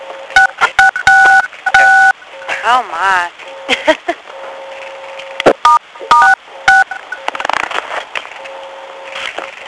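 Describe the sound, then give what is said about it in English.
A scattered series of short two-tone keypad beeps from phone buttons being pressed to mute the phone on a call, loud, with irregular gaps between presses and brief voices and rustling noise in between. “If you have not muted your phone, please press 6, and that will mute your phone.”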